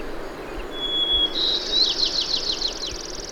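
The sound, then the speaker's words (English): A hermit thrush sings: a clear, sustained whistled note opens the phrase, then breaks into a quick, high, fluting cascade of ringing notes over a soft background hiss. “The thrush seems to be singing a duet with itself.”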